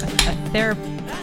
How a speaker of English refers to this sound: Why were you so distracted by me cracking open a refreshing cheer wine? It was a very loud, like I felt like it was, you intentionally held your can of cheer wine very close to the microphone as you opened it.